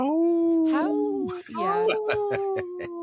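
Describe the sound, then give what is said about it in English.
A person imitates a wolf howl to say 'no' in wolf, with two long, wavering vocal cries, the first steady and then dipping, the second rising slightly and ending in a fluttering, pulsing quaver. “So I speak wolf. When I say no, I go,”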